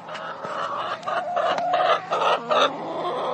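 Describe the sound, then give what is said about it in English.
A chicken's gackle call, indicating frustration: a run of agitated, irregular clucks and squawks, fairly loud, with a steady low hum underneath and no talking. It was played by researchers at Australia's University of Queensland. “This is known as a gackle call and often indicates frustration.”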